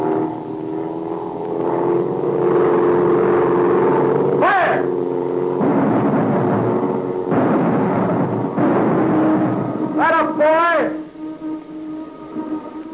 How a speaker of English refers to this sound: The plane is swinging in a circle. It's banking. Getting ready to dive.